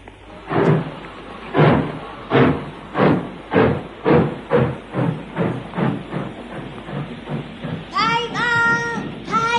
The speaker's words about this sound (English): Liverpool, front carriage next to the engine. All right, sir, only make haste. The express is just leaving.